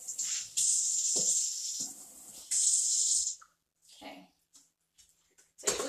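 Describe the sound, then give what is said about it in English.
Running water from a sink tap hisses steadily in two long stretches as dishes are washed, with clinks of dishes underneath, then the flow stops and a few soft clatters and brief voice sounds follow before the water starts again. “Okay, so the sink is cleaned out, so let's go ahead and get started on the dishes.”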